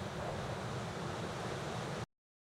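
Steady, dense rush of beach ambience for a scene set on a beach, surf noise with a soft, subtle wind blowing in the background, continuous and even for about two seconds before cutting off abruptly. No voices.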